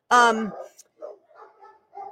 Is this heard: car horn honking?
no